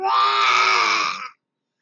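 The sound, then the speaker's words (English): A single loud, rasping roar from a dragon lasting just over a second, forceful, ending abruptly into silence with no talking. “The dragon roared.”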